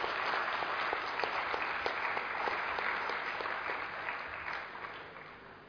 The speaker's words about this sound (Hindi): तो जोरदार तालियों से अभिनंदन करें।